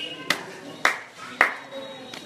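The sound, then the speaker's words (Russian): Three sharp hand claps, given as a demonstration, land about half a second apart, each a crisp, bright snap, followed by a much fainter tap at the end over a low, steady background hum. “я выхожу и делаю один хлопок”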